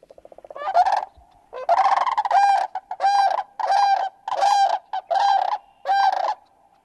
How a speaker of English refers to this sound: Well, I want to check out some of the birds that are coming back to Wisconsin right about now. Let's start. I always love seeing these guys, the sandhill cranes. Let's give a little listen.